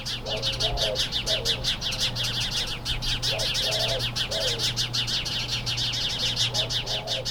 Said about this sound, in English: recently from my yard in Phoenix, just a little after sunrise, because I noticed that as soon as the sun rises, there go the birds, right? This is at 6 a.m. There's a lot of activity in the Palo Verde tree outside my living room window. Let's listen.